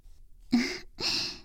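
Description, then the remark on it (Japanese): A big, drawn-out yawn comes as two breathy, airy exhalations, the first opening with a short low voiced tone before trailing into soft rushing breath, with no talking. “すっごい大きなあくび。”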